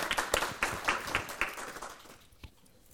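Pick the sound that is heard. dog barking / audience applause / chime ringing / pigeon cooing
audience applause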